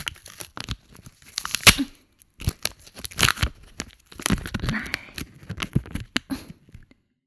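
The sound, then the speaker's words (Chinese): Adhesive tape is pulled off a roll and torn, to be used to seal someone's mouth, in a series of rasping bursts, irregular and fairly loud, with crinkly pauses between pulls and no talking. “为了防止你吐出来呢，老娘啊还特地准备了胶带。”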